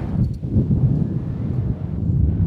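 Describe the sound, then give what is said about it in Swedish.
Steady, loud wind buffets the microphone with a low, rumbling roar throughout, without a break, and no one speaks, recorded while riding upward high above the ground on a swaying ride with a view as far as the Globen arena. “Och det blåser lite grann.”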